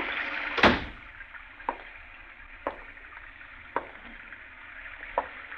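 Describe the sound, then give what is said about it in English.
A door is closed with a single heavy thud, followed by a few soft, evenly spaced knocks or steps over a steady background hiss of falling rain. No one speaks. “Now, will you close the door? It's raining in.”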